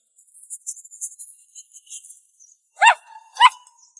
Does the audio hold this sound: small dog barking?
yes